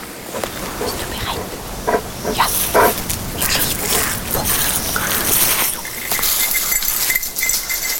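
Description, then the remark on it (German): An excited search dog barks and whimpers in several short, uneven bursts as its signal-colored harness is put on before a search, restless yelps mixed with whining over a busy outdoor background. “Nach der Anfahrt beginnt für die Hunde der eigentliche Job mit dem Anlegen der sogenannten Kenndecke.”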